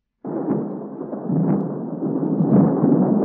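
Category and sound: nature, thunder rumble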